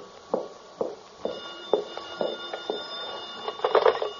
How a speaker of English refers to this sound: The phone. No, I'm not going to answer it. Go ahead, answer it, baby. Go on. Okay.